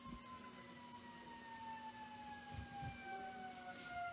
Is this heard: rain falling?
no